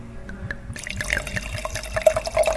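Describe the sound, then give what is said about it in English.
Wine glugs steadily from a bottle into a glass, with a quick rhythmic gurgle and splashy liquid sound building as the glass fills. “Wine number two, and of course, let's hear that sound one more time.”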